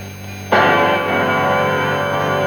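After a brief low hum, the opening chord of a rock song crashes in all at once, one loud, bright, jangling strum that rings out and sustains with a shimmering, bell-like tone.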